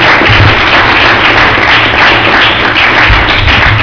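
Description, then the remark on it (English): An audience applauds steadily, dense overlapping claps filling the whole stretch at a loud level, with no voices breaking through, giving a round of applause to the people who shared their stories in a question session. “I'd like y'all to give these folks a round of applause.”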